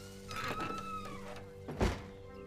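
A sheriff pulls shut the door of a condemned home: a thin, wavering hinge creak drawn out for about a second, followed by a single solid thud as it closes, with a low steady hum underneath.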